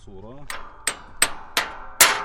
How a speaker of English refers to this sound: takes a break from plowing to hammer a busted tractor part back into place.